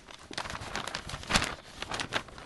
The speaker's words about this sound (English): I love this sound. I think I said that before, the crinkle of newsprint, almost as well as the pop of a cork out of a wine bottle.